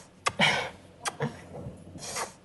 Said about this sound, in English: There's some breathing. It was very quick, too. Listen to that heavy breathing.